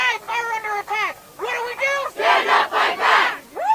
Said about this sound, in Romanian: Sute de persoane s-au strâns în fața Curții Supreme după apariția documentului în spațiul public. Este vorba în principal de susținători ai dreptului la avort, care s-au plâns că americanilor li s-ar lua un drept fundamental.